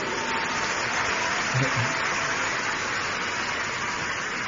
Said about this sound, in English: Oh, if you are clapping, do it well.